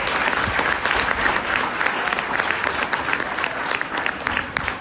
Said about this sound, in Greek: Κατά συνέπεια, αξίζει στο Υπουργείο Παιδείας ένα θερμό χειροκρότημα, διότι σκέφτεται το σχολείο.